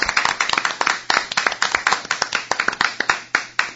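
A small group of people clapping steadily in congratulation, a rapid stream of sharp hand claps sustained throughout with no voices.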